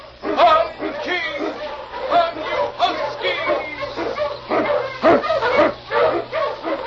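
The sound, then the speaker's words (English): King, an Eskimo lead sled dog, barks and yips excitedly in a rapid, almost continuous string of loud calls, some rising into whining howls, over a faint low hum, blazing the trail through storm and snow in the Yukon for Sergeant Preston. “King, the swiftest, strongest of Eskimo lead dogs, blazes the trail through storm and snow for Sergeant Preston as he meets the Challenge of the Yukon.”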